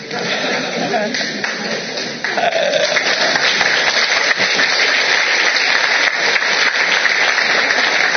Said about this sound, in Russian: Это вам аплодисменты, не мне. Это вам.